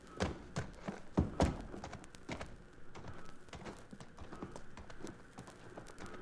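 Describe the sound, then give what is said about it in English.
Horse hooves clop in a few irregular, heavy steps as a rider gets down off the horse, the loudest early on, then fade into softer shuffling over a steady low hum. No one speaks. “down off that horse and let's go.”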